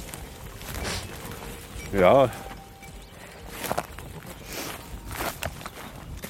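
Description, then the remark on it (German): A herd of 150 Toggenburg dairy goats trips along in a long line through a mixed forest on the way to a heath in Brandenburg, Germany, their many small hooves pattering in a loose, steady shuffle, with a short spoken word cutting in partway through. “In einer langen Reihe trippeln sie hintereinander her.”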